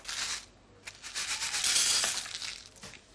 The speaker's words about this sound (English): Right, next is the caraway seeds. I'm just going to weigh those out. 1/4 ounce.